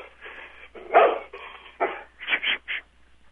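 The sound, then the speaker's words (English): A dog barks several times in uneven bursts, a couple of louder yaps standing out near the end, with a muffled, telephone-like quality and a faint hum underneath. “Go ahead and get that phone and that dog.”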